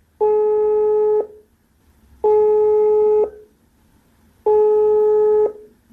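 A telephone ringback tone from an outgoing call placed to a singer: three steady, buzzy electronic tones, each about a second long with short pauses between, loud and clear with no one talking.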